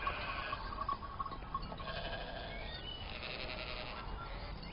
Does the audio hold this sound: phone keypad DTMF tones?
no